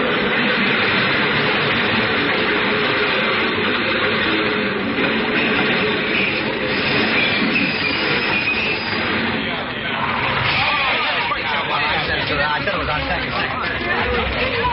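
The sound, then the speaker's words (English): A subway train roars in loudly out of a tunnel, its wheels grinding and squealing on the rails in a steady, continuous rush, with a murmuring 5 o'clock crowd faintly beneath the din. “I saw the gleaming white headlight appear in the tunnel, rushing toward me out of the dark”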